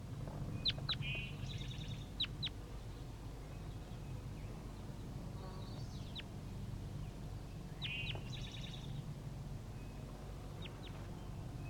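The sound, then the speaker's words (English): Young birds give short, high chirping calls in scattered bursts, some sharp and descending, over a steady low rumble of background noise. No one speaks. “Start recording the juvenile birds.”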